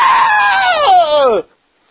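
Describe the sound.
A man's voice imitates a girl screaming on a radio broadcast, a loud, drawn-out scream lasting about a second and a half, starting high and sliding downward before cutting off abruptly into silence.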